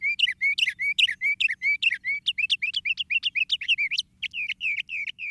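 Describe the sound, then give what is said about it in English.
A Northern Mockingbird sings a rapid, continuous string of varied chirps and whistled phrases, loud, with barely a pause between notes and no voices. “And the noisy Northern Mockingbird by five.”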